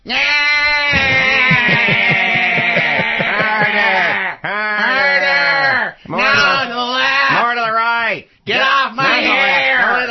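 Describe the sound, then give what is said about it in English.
A mock Laura Ingram orgasm sound drop on the Stephanie Miller Show: loud, exaggerated vocal moaning with a quavering, bleat-like tremble, rising and falling in pitch across several breathy bursts separated by brief pauses. “I knew the Laura Ingram orgasm would cheer us all up.”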